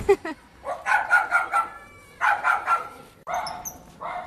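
Several dogs, not kept in kennels, bark in quick bursts of yips and bow-wows at the reception entrance of an animal shelter: three clusters of rapid barking separated by short pauses, with a higher whine near the end.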